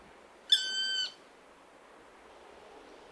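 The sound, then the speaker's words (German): A black woodpecker gives a single drawn-out, nasal call lasting about half a second, steady in pitch and fairly loud, then falls silent against a faint hiss of background noise. “Oder sagen wir mal, der Schwarzspecht, der ruft natürlich, ja gut, jetzt sage ich, der ruft typisch, aber du wirst wahrscheinlich sagen, jeder Vogel ruft typisch.”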